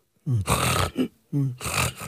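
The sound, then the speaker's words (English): A person imitates the loud, ragged snoring of sleep apnea without a breathing mask: two harsh, gasping snorts with rough throaty rattles, separated by a brief pause, loud with no talking. “Like, I mean, when I don't use my mask, I tend to snore. But it also sounds kind of terrifying because it sounds like you're dying, quite honestly.”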